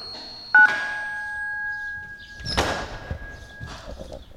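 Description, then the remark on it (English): A click sets off a steady two-note electronic intercom tone that holds for about three seconds as a visitor is buzzed into the lobby. The lower pitch drops out first, and a broad thump lands before the tone ends. “I'll buzz you into the lobby.”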